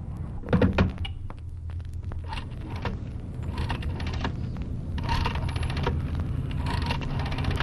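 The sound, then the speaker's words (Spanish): A coin is deposited into a public payphone slot to make a call, clinking with a brief metallic rattle near the start, followed by faint mechanical clicks over a steady low rumble of background noise. “Deposita la moneda y llama.”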